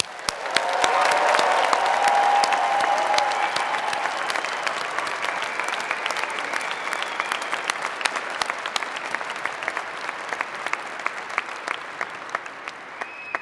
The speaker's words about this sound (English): I'm glad to report the graduates in the front row are applauding themselves. Very good.